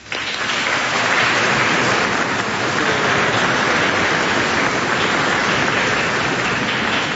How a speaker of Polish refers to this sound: Brawa dla wszystkich młodych ludzi.